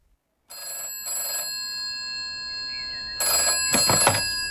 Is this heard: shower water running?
no